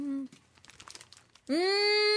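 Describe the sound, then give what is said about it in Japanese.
A snack wrapper crinkles and rustles for about a second as a package of Tanba black bean mochi is opened, a dense patch of crackly plastic noise set between two sustained, steady voiced tones. “お菓子食べたら止まらないんですよ。 はい、開けましたよ、つって。”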